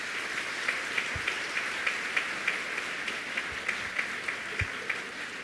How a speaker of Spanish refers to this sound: El aplauso del público indica que esto es muy importante y debo decirles que además se ha convertido, de hecho, una responsabilidad legal.